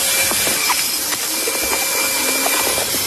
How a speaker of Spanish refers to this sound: y ha sido el encargado de colarse en el tejado de este edificio y aspirar a todas estas abejas.